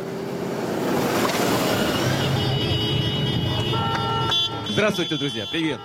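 A rumbling crowd of Harley-Davidson motorcycle engines roars, then a chorus of car horns joins in, several overlapping honks blaring loudly over the steady engine noise, at an event where Russian president Vladimir Putin rode one of the motorcycles without a helmet.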